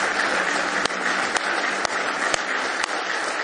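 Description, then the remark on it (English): A church audience on a Sunday morning applauds in praise of God, a steady, dense wash of clapping with sharper accented claps landing at an even rhythm about twice a second; no one speaks. “Give Him a big hand clap of praise if you love Him this morning.”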